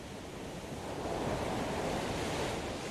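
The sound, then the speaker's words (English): Ocean waves wash steadily against the shore along the California coast near Big Sur, with a steady, cooling ocean breeze blowing across the seaside cliffs, a continuous broad rushing that swells slightly louder after the first second. No voices are present. “It's a lovely day along the California coast near Big Sur. A steady, cooling breeze from the ocean pushes a strong updraft along the seaside cliffs.”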